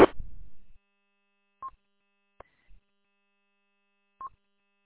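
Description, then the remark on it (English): A couple of short, isolated telephone keypad tones sound a few seconds apart as someone dials a phone call, with a soft click between them and a brief muffled rumble at the start. There is no talking. “I got to make a phone call.”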